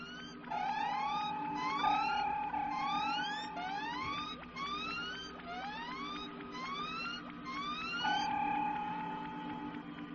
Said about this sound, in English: It's a radio wave, sir. We're passing through an old-style distress signal. They were keyed to cause interference and attract attention this way. A ship in trouble making a forced landing, sir.